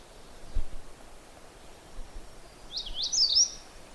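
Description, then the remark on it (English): A magnolia warbler sings one short, bright, slurred phrase of a few quick notes near the end, over a quiet background of faint hiss and low rustling. “And magnolia warblers are kind of blue-gray on the back.”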